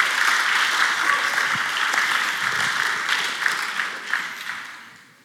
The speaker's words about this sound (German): Wo soll sich denn sonst die Life Church treffen? Außer in der Festhalle. Das ist doch ein Applaus wert und das soll doch gehört werden.